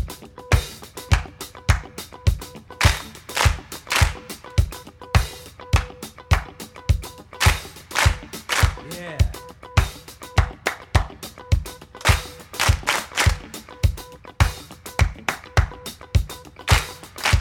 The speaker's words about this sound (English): Okay, now I'm gonna clap some rhythms, and I want you to echo back whatever rhythm I clap. You got it? Yeah! Okay, let's see if you can get this rhythm.